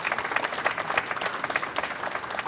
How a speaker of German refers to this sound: Ja, Ines Geipel, wir haben es. Ja, Ihr Applaus.